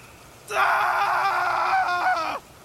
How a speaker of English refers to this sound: Gabriel screams and continues to struggle. The hands drag him towards a tree.